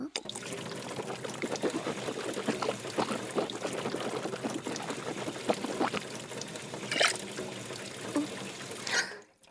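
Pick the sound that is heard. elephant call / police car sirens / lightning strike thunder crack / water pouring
water pouring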